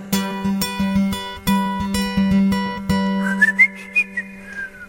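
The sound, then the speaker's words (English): Strummed guitar chords ring out, then a person whistles imitation bird calls: a run of short, high, chirping notes that rise and dip over the fading guitar. “I wondered if you were going to do the birds at the end.”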